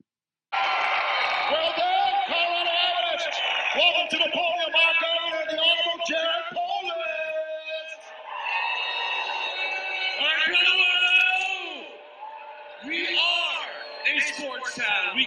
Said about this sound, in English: This is Jared Polis getting booed as Hancock introduces him.